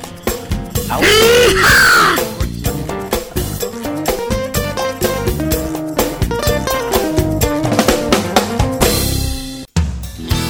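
A man lets out a loud, harsh war cry that rises and falls in pitch for about a second, then dense, steady music carries on to the end.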